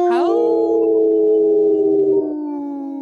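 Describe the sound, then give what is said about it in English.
People imitate a wolf howl together, their voices sweeping up and then holding a long, loud, steady note for about three seconds before dropping slightly lower at the end. “I think we have to do that again. I didn't see … howl.”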